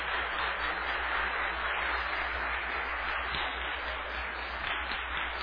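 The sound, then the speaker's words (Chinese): A crowd applauds steadily, a dense wash of many hands clapping at an even loudness for several seconds, with no voices rising above it. The applause thanks a group of teenage church volunteers. “我们是不是先用掌声来谢谢我们这一群青少年同工？”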